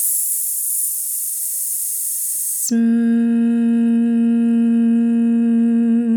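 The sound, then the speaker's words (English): In a breathing exercise, a steady hissing exhale lasts about two and a half seconds, then cuts straight into a sustained, even vocal tone held to the end. “One, two, ready, hiss.”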